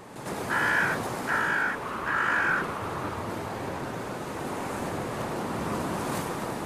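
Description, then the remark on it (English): Three harsh, raspy calls in quick succession from smaller birds mobbing an eagle to drive it away, loud, over steady roaring surf and wind; the calls stop after a couple of seconds while the waves continue. “Apparently dissuaded by the mobbing behaviour, the eagle appears to change course.”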